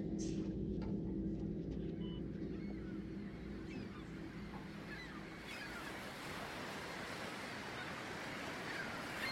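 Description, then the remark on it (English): Pacific Ocean waves wash steadily onto a beach at night in a continuous, rolling roar, with a low rumble early on and a few faint bird-like calls above the surf. “Just down the street from my house is the Pacific Ocean, and when you go down to the beach at night and look across the Strait of Juan de Fuca”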